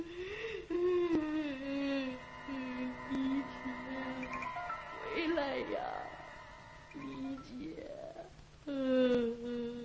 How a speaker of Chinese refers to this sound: 过了一会儿，那哭声轻了一些